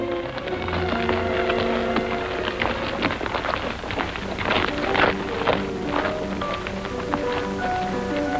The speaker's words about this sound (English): march continues.